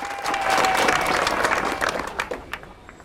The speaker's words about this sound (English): walks regally out of the castle and stands on top of the steps, hushing the crowd.